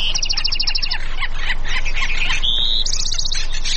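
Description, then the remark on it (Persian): Birds chirp and sing continuously, with rapid trilling bursts and repeated high tweets overlapping one another against a steady outdoor background hum. “خب این هم گزارشی از دل طبیعت، و اگر فرصتی داشتید حتما به جاهایی برید و از صدای پرنده ها، صدای طبیعیشون رو بشنوید و لذت ببرید.”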